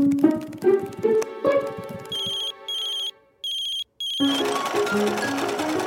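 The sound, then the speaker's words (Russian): A mobile phone left at home rings with an unknown caller: four short, bright electronic ringtone bursts in a steady on-off rhythm, set between passages of lively background music. “Тут кто-то неизвестный звонит.”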